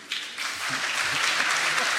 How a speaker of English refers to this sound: You hear all that cheering out there?